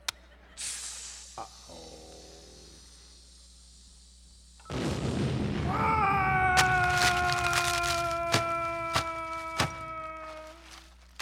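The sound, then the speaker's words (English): A lit fuse hisses and sizzles, giving way to a sudden loud explosion blast that blows doors and crates open, followed by a long rumbling aftermath with ringing metallic tones and several sharp clanks of falling debris. “Boy, that blast did the job, all right. Blew these doors wide open.”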